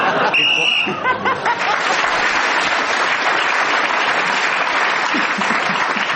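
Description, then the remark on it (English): A short, shrill whistle blast marking the end of time sounds once at the start, then loud, steady applause from a crowd takes over and carries on to the end. “Clement Freud got an extra one then, speaking as the whistle went.”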